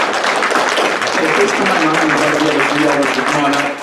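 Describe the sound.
An audience applauds in a loud, steady round of clapping that fills the whole clip, with murmuring voices mixed into the dense patter.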